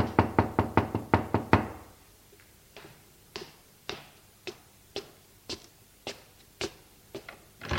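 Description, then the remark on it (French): A quick, loud burst of about eight knocks on a door at 10 o'clock, followed by quieter, sharp taps spaced roughly every half second, with no voices. “Il se lève pour aller ouvrir la porte.”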